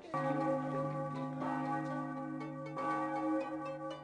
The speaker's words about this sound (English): Those bells. What time is it? 8:25.